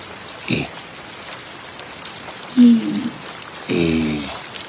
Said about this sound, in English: Rain is very beautiful today. Rain.